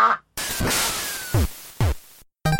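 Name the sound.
ducks quacking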